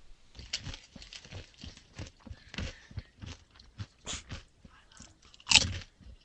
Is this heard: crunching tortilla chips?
yes